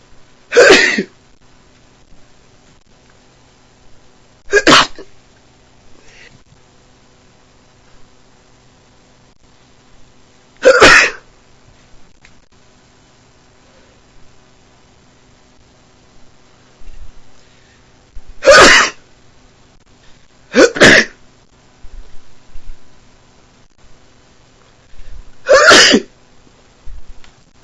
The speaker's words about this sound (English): and my nose is really tickling. So I don't know how many times I'm gonna sneeze, but I know I'm gonna sneeze again. Cause I feel it. It's tickling.